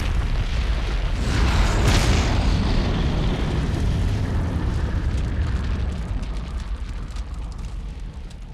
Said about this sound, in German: Ein Beispiel ist Hitchcocks Die Vögel, The Birds. Da gibt es eine wunderbare Tankstellenexplosion.